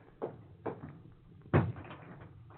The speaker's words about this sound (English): Perhaps I'd better close the door.